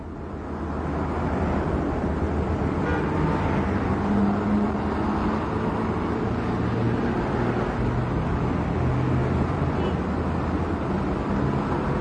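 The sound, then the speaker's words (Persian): Steady road rumble from inside a moving car with two people seated inside, a dense low drone with engine and tire noise that holds constant throughout with no talking. “زن و مارال تو ماشین نشستن، ماشین در حال حرکته.”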